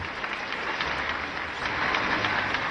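A steady wash of audience applause, many hands clapping in a dense, continuous crackle that swells slightly louder partway through, with no voices over it.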